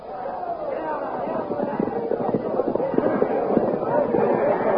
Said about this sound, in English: With shouts and confusion, the Blue Magic Army charges to attack the barricaded Hawkmen.